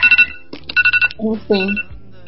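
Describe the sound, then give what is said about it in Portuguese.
A timer alarm bell, set to mark break intervals, rings in two quick bursts of rapid, bright, high-pitched electronic pulses, followed by a short stretch of voice-like sound. “Enfim, tocou a campainha.”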